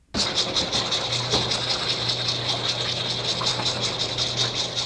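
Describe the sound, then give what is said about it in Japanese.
A loud alarm clock bell rings to wake someone up, continuously for nearly five seconds, a harsh, rapid metallic rattling clatter that starts abruptly and holds steady over a faint low hum. “さて、先ほどのけたたましい目覚ましの音によって、なんとかやっとのことで起きたドクタースミスさんは、やがて歯を磨き始めました。”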